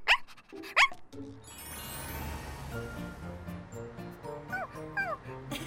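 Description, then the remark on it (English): A puppy named Blackie gives two sharp yips, then lets out a few high, wavering whimpers near the end, all over steady background music. “You're being good. What a nice puppy you are.”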